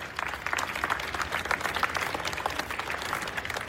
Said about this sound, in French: Sur la place du Palais d'Hiver, il applaudit avec enthousiasme le tsar lorsqu'il apparaît au balcon.